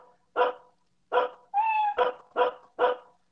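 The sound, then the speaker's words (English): A single dog barks in sharp, loud bursts, about five short barks spaced irregularly, with a drawn-out, higher-pitched whining yelp in the middle. No one speaks. “Just what's the sound of one dog barking?”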